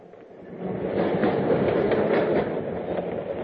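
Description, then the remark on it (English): A subway train rumbles and clatters steadily along the rails, a dense, continuous low roar with faint rhythmic clacking, swelling slightly louder after the first moment and holding steady throughout. “They had dinner and danced a lot, then took the subway home.”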